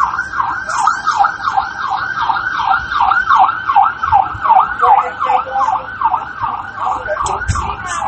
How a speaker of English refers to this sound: Wow, it's so interesting that this ambulance is riding past